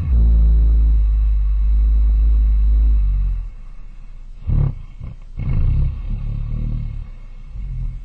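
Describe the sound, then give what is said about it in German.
A black bear in winter hibernation snores, a long, deep rumbling drone lasting about three seconds, followed by softer, irregular snorting breaths and huffs; it breathes about once every 45 seconds. No one speaks. “Was hier seit längerem zu hören ist, das ist ein Schwarzbär im Winterschlaf. Ein Schnarcher, ein Schnaufer.”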